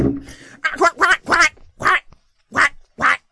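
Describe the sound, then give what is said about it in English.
A person does a duck impression: about six nasal, raspy quacks delivered fairly loud, in quick bunches with short pauses between them. “Best impersonation of a duck.”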